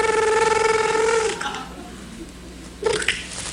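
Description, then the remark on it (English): A voice mimics a phone ringing for a 911-call sketch in a studio, a single sustained, warbling high tone lasting over a second, followed by quiet and then a brief vocal sound. “Okay, so can you make a ringing noise?”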